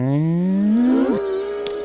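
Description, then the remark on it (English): A cartoon sound effect, voiced by Jason Marsden, for a cartoon cat reinflating: a high-pitched, strained inhale, a harmonic vocal tone that slides steadily upward in pitch, then holds on a steady higher note, loud and alone. “He's inhaling super hard and high-pitched.”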